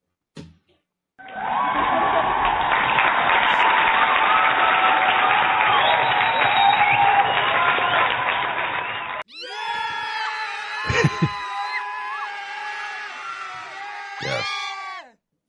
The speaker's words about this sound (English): And before we move forward, I want a round of applause for David.